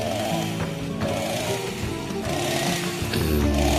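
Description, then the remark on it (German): A chainsaw runs loudly and steadily, its engine giving off a dense, buzzing roar that wavers slightly in pitch throughout, with no voices. “Barbecue. Kettensägen.”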